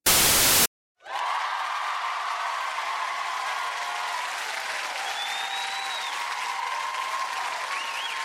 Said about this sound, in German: Ich wollte schon immer eine Heldenchaos-Episode mit einem großen Applaus beginnen.